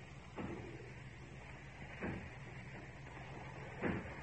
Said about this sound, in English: I hear it. It's from the factory. Aye. As if they were breaking down the doors. Aye. Yes, that's what they're doing.